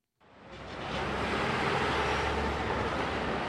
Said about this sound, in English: When you think of the streets of New York City, you think traffic. That means noise, of course, and pollution.